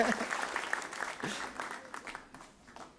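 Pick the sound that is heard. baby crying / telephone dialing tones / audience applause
audience applause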